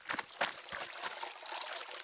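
River water trickles and babbles steadily, a continuous burbling stream sound with a few brief splashy bursts near the start.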